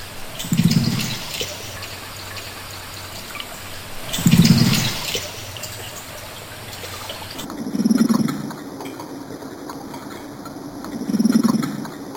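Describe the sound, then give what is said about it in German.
A carp, chatting with another carp on a summer night, makes four low, muffled cooing grunts underwater, spaced about three to four seconds apart, over a steady watery background hum. “Plötzlich hört man immer ein Gurren wie ein Meersäule.”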